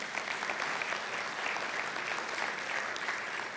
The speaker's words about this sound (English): I'm glad you clapped before you heard what I was going to say next.